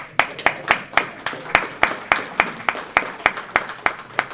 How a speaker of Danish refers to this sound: Så jeg vil bare have lov at klappe lidt af jer. Må jeg det?